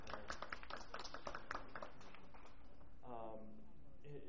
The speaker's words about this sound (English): the park staff at the domes has been very admirable and deserves that applause.